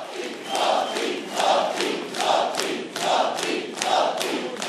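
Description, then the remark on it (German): Supporters of Milanović, winner of the presidential runoff, cheer and chant at the Kulturfabrik rock club in Zagreb in a steady rhythmic pattern, roughly five loud surging calls repeating about once a second over a continuous roar of voices. “Vor jubelnden Anhängern in der Kulturfabrik, einem bekannten Rockclub in Zagreb, bedankte sich Milanovic bei seinen Wählerinnen und Wählern sowie ebenfalls bei der scheidenden Staatspräsidentin.”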